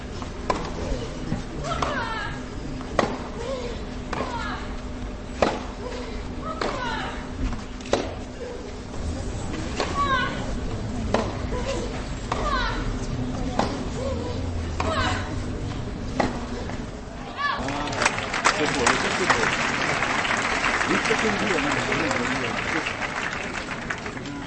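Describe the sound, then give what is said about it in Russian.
Women tennis players' shrieks, including those of Monica Seles, Jelena Dokic, Maria Sharapova and the Williams sisters, ring out again and again, each cry paired with a sharp racket thwack in a steady rally rhythm, before a wash of crowd applause takes over near the end. “когда начался в теннисе крик?”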